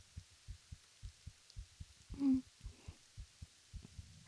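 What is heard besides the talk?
heartbeat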